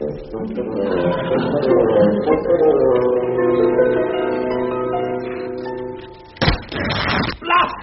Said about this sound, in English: Blast! Well, yes. I slammed the door on my coat.